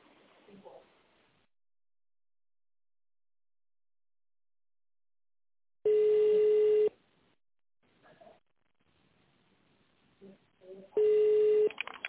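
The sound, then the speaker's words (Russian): Two long, steady telephone ringback tones, each about a second, sounding several seconds apart at a buzzy mid pitch while a call to the company Zdorovy Gorod waits for a secretary to answer. Faint speech murmurs at the start and between rings. “Наберите добавочный номер или дождитесь ответа секретаря.”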